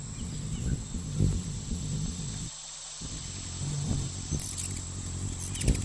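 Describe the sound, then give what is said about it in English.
A hummingbird's flapping wings make a low, buzzing hum, loudest at 40 and 80 hertz, that wavers in pitch and cuts out briefly midway, over a thin, steady high-pitched whine in the background. “But basically, the way their wings flap creates a bunch of sound at different frequencies, the loudest being 40 and 80 hertz.”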